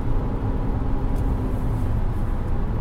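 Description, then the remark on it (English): A steady, loud low rumble of heavy trucks on a road, the engine and tire drone holding constant with no clear rise or fade, and no voices. “Even when they're right on us, I can't see inside the trucks.”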